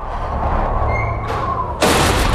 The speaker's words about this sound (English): She spins round. One of the double doors behind her is swinging open.